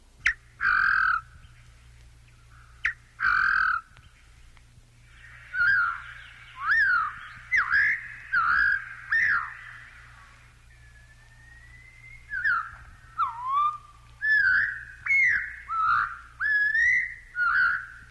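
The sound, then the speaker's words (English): A scarlet tanager's call played slowed down: two short harsh bursts, then a run of drawn-out, warbling whistled phrases, fairly loud over a faint low hum, with no talking. “And now here's the bird's call, slowed down.”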